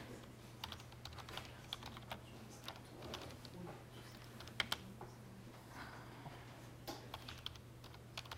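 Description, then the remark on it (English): Irregular clicking of keys as someone types search keywords on a computer keyboard, quiet, with a steady low hum underneath and no voices. “So let's see if I can write. We need some help pushing keyboard.”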